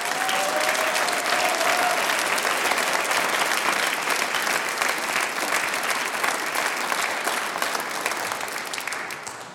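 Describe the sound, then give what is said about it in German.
A large audience at a folk music evening claps steadily and loudly, a dense wash of applause that holds for several seconds before gradually tapering off toward the end. “Ein herzliches Grüß Gott da herinnen, die Volksmusikfreunde und auch daheim an die Radiozuhörer wünschen wir einen recht schönen Abend und schicken einen kräftigen Applaus in die Nachbarschaft und wo sie uns überall hören.”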